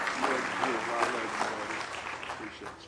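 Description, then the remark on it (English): An audience claps hands in praise before prayer in a dense, steady wash of applause, lively, with voices murmuring and calling out beneath the clapping throughout. “Give him one more hand clap of praise as we pray tonight.”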